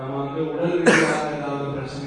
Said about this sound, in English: For instance, I'm coughing a little bit now.